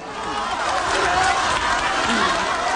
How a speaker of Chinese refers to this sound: 23号上午，习近平来到这里，店主和顾客见到总书记都十分激动，连声欢呼：“总书记好！”